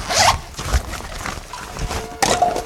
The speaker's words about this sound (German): Was ist das für ein Spray? Das ist ein hochwirkungsvolles Betäubungsspray.